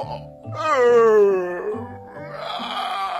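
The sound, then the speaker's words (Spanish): A person lets out one loud, exaggerated fake yawn, a drawn-out voiced moan that slides downward in pitch before trailing off into a breathy exhale. “Gritó fingiendo un bostezo.”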